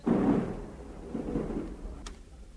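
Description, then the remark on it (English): Low thunder rumbles on for a few seconds, a deep rolling boom that swells at the start and slowly fades, with a faint sharp click near the end. “Always best to have a window open if there's thunder about.”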